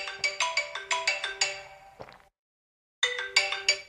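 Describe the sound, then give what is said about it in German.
An alarm clock rings loudly with a rapid burst of bright, repeating electronic chime tones, falls silent for about a second, then starts ringing again. No one speaks. “Und zweitens war das mein Wecker.”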